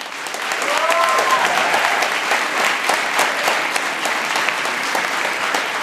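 An audience claps steadily for several seconds for a question about a zombie apocalypse, rated by an applause meter, a dense, even wash of many hands at moderate loudness, with a brief faint whistle or cheer near the start and no talking.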